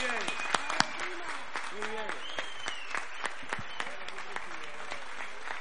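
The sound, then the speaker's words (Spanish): An audience at the Cofete fiestas applauds the Asociación de Vecinos del Caserío de Cofete, a dense wash of clapping with sharper individual claps popping out, while voices and cheers rise and fall over the top throughout. “Un fuerte aplauso para nuestra Asociación de Vecinos del Caserío de Cofete.”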